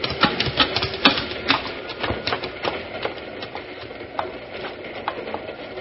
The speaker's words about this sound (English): That's a cattle train, all right.